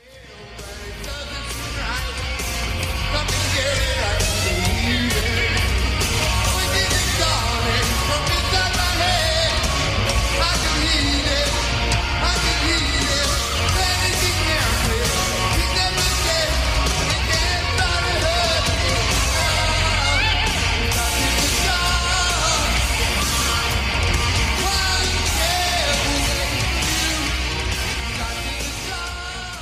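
A live rock concert recording: dense, loud band sound with heavy low end, distorted guitars and shouted vocals, plus crowd noise, running steadily for about thirty seconds.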